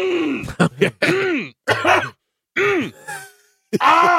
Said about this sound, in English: Hold on. I'm just gonna clear my throat.